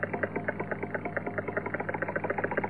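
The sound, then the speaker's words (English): A Geiger counter clicks rapidly and steadily as its detector rod tests a radioactive bee, its dense crackling pulses running almost like a buzz over a constant low hum, with no voices present. “Happy, listen to that counter. This bee is full of radioactivity.”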